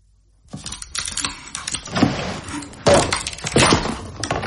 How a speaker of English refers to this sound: I'm very good at locked doors, you know. All we need is some sort of leverage. Now, this poker will do. Made for it, in fact, yes.